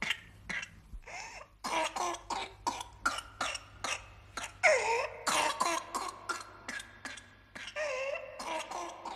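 A child's whooping cough: rapid fits of harsh coughs in quick succession, broken by high, strained whooping gasps for breath, with no talking.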